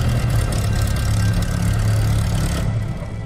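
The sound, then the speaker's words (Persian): A steady airplane engine drone with a low, throbbing hum and a constant mid-range whine, running continuously without pause before easing slightly at the end. “خب اگه اینو بکشی هواپیما میره بالا.”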